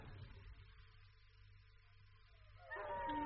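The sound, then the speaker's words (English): Tracking dogs trailing a man up and down a stream howl and yelp in a rising, wavering cry that swells in the last half-second, over a steady low rumble and faint drawn-out tones earlier on. “The dogs are trailing him.”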